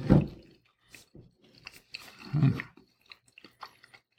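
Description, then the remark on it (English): Crisp crunching and chewing of a Papa John's thin crust pizza, with a few louder bites followed by softer, irregular mouth sounds and small clicks, no talking. “It is a Papa John's thin crust pizza.”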